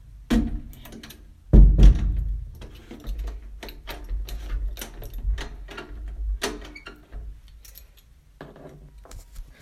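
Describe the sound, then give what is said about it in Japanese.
A heavy door thuds shut, followed by metallic clicks and clinks of a key turning in a lock, with light rustling and shuffling in between, as someone locks up before setting out jogging. “鍵を閉めて。”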